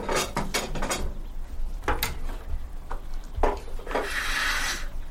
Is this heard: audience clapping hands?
no